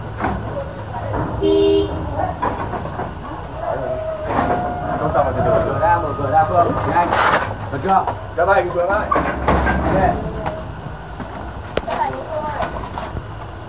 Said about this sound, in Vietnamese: Đây, họ cầm kìm họ phá cửa.